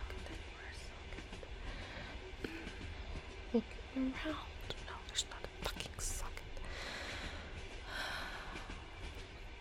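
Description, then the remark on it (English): Steady low rumble of a moving train carriage fills the background, with faint clicks and rattles, while a person speaks quietly, almost whispering. “Is there even a charger on this train?”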